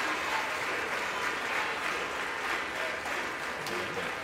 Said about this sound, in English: House representatives on their feet. It appears most Democrats and Republicans are on their feet, giving the new Speaker a round of applause.